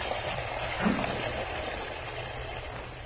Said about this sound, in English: Mary turns the water on full force so that she won't have to answer her young son's last question.